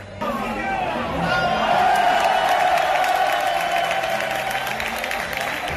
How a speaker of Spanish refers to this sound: Pues una vez más. Y este aplauso de parte de todo el Fernando Torres es para vosotros.